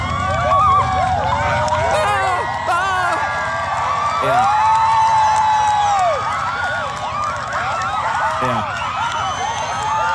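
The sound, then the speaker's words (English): A large crowd cheers and shouts excitedly as a solar eclipse reaches totality, a dense, loud, sustained roar of overlapping voices with long whoops and yells rising above it throughout. “I mean, again, listen to this crowd. They're going nuts, or they're just watching this happen.”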